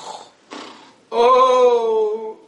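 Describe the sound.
A person imitates snoring: two short breathy rasps, then a loud, sustained throaty drone lasting about a second before it fades.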